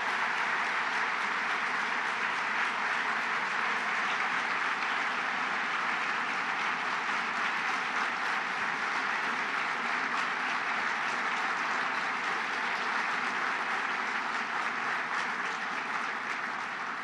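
Sustained audience applause for a 92-year-old man and the retired civil servants present, a dense, steady wash of clapping that holds at an even loudness for about seventeen seconds with no voices rising above it.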